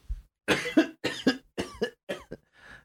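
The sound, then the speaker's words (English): A fairly loud fit of coughing: four or five harsh coughs in quick succession, each a rough burst of breath, with no speech around them. “Cough.”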